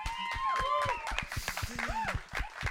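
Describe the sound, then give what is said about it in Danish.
An audience at a live stage event applauds the panel guests with a steady stream of sharp, overlapping claps throughout, while voices call out and cheer over the clapping at moderate volume. “Tusind tak, skal vi ikke give dem en hånd?”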